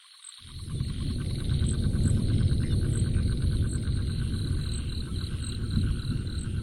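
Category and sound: insect, crickets chirping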